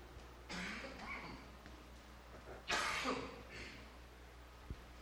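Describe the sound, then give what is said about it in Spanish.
Two harsh, breathy coughing bursts from a speaker during a Spanish-language talk on the Bible and fasting, the second stronger and more abrupt, separated by a short pause with no talking. “Uy, estoy batallando con este tos.”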